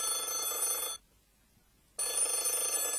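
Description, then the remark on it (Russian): A telephone bell rings twice in the hallway of a home, each burst about a second long with a one-second pause between, loud, with no voices. “Придя домой, Аверьяныч отправился было на кухню, чтобы напиться чаю, но тут в прихожей раздался телефонный звонок.”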